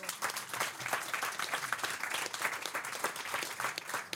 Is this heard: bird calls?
no